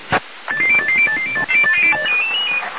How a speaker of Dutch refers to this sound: Ja, zoals je dus hoort, telefoon. Dus ga eerst maar even anders verder.